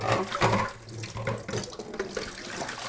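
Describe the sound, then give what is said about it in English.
A kitchen tap runs steadily for the whole stretch as parsley and dill are rinsed beneath it, the stream hissing and splashing unevenly with a brief heavier gush near the start. No one speaks. “Give those guys a rinse.”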